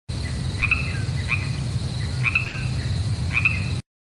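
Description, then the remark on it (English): Crickets chirp in short, evenly spaced bursts over a steady low background hum, with no voices. “You guys don't want to talk about no crickets.”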